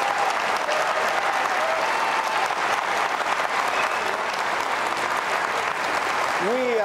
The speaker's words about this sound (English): In alphabetical order, Jay Inslee, who prefers the Democratic Party, and Rob McKenna, who prefers the Republican Party. Now, please give them a hearty round of applause.